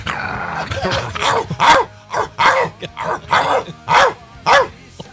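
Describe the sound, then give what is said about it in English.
A dog barks repeatedly, about eight loud, sharp barks in a fairly steady rhythm, with a low growly edge between some of them. “He's saying hi to Milton. Yeah, I'm doing that to Jim's dog. It drives him crazy.”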